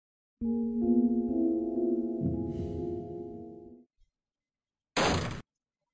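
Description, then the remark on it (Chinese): A low, sustained droning tone with layered harmonics plays for several seconds and fades, then after a brief silence a door slams shut once, loud and sharp enough to startle everyone present. No one speaks. “关门的声音非常的响，把在场的所有人都吓了一跳，不由得看向门口。”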